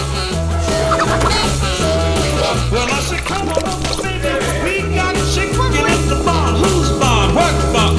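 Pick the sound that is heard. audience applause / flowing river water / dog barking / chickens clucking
chickens clucking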